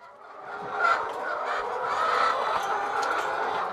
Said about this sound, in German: zeigt auf seinen mobilen Hühnerstall. Von außen erinnert der ein wenig an einen Wohnwagen. Die deutlich hörbaren Insassen allerdings